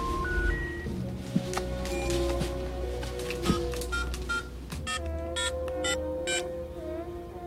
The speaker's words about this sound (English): Taking Jack's phone, he absentmindedly dials a number while looking in the cupboard.